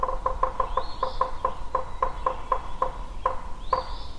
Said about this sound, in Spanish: ¿Sabes qué es? Si respondiste pájaro carpintero, es correcto.